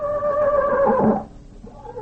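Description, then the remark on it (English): The horse Tarzan whinnies in a single loud, wavering cry that slides downward in pitch for about a second, then breaks off into a low, quieter rumble. “Well, that was Tarzan again.”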